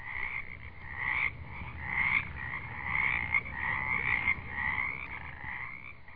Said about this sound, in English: And you can fall asleep to those frogs every night like we do.